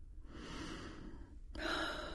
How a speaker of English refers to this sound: So when you are ready, take a few more deep, deep breaths.